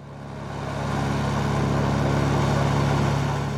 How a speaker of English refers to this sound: That was a Russian army helicopter flying low over the Siberian forest.